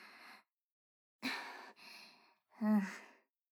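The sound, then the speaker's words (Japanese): Heavy, breathy exhales from a dog: four uneven huffs over a few seconds, the last one longer with a faint voiced whine. Fairly loud, with no talking. “ああ、ペットの犬かも。息荒いから。”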